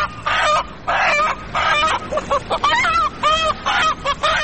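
A chicken clucks loudly and close by, a run of squawky, drawn-out calls followed by quicker, choppier clucks in uneven bursts, with no talking.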